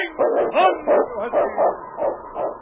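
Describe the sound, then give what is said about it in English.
A dog barks and yips repeatedly in a steady, excited rhythm, about seven or eight sharp barks with nothing else heard: Yukon King, a lead sled dog of the Northwest, on the radio show Challenge of the Yukon. “It's Yukon King, swiftest and strongest lead dog of the Northwest, blazing the trail for Sergeant Preston of the Northwest Mounted Police in his relentless pursuit of lawbreakers.”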